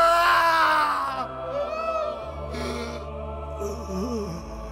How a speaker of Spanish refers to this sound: Entonces Jesús soltó otro fuerte grito y dio su último suspiro.